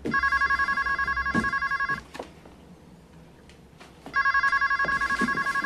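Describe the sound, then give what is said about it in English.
A telephone rings in two loud bursts of about two seconds each, separated by a pause with faint background noise, its bright warbling tone repeating rapidly within each ring. “Answer the phone. It's him. Answer the phone.”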